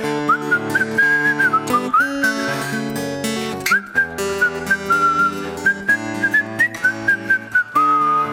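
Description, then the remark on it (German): A person whistles a bright, sustained melody over a full musical backing with steady rhythmic accompaniment, the whistled line clear and prominent throughout with brief breaks between phrases. “Darf ich mitpfiefen?”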